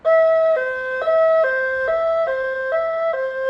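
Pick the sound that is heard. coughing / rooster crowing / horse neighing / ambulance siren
ambulance siren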